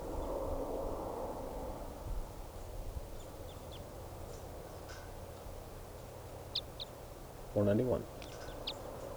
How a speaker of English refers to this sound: Stop. Recording bird.